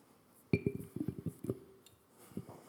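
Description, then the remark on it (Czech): An empty glass jar is handled, giving a quick run of bright clinks and knocks that start sharply, clatter for about a second, then trail off into a few softer taps. “Víte, co to je? Nějaká nádoba, jasný, sklenice. Je prázdná.”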